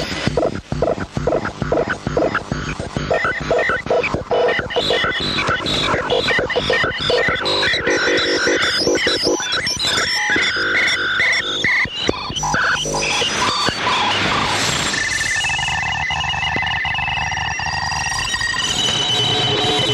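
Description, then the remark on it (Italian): Dense, chaotic radio transmissions, including Morse code, telephoto, weather map and teletype news services: rapid beeping tones and buzzing digital bursts layered over static, shifting into steady warbling data tones near the end. Loud throughout, with no voices. “I suoni che avete sentito sono servizi trasmessi via radio. Ci sono comunicazioni in codice Morse, telefoto, mappe meteorologiche, notizie per telescrivente, eccetera.”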